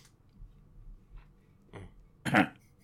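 A short, harsh cough bursts out near the end, close and fairly loud, after a quieter throaty sound a moment earlier; otherwise the background stays low with no talking.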